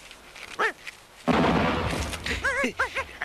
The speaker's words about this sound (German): Was war denn das? Das hörte sich an wie ein Kanonenschuss.